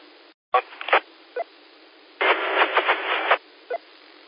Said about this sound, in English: Station that just hit the repeater. It came through very scratchy for me. Couldn't make you out. So, give me another try.